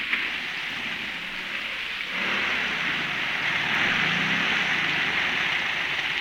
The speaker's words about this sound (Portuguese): Desse jeito nunca vou chegar naquele sítio. Droga de chuva!